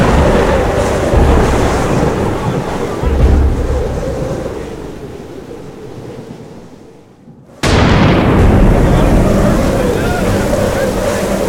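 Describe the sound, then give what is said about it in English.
Roaring storm surf with heavy waves crashing amid constant wind noise, dipping briefly near the end before a sudden loud surge of rushing water returns. “The waves must be 30 feet high.”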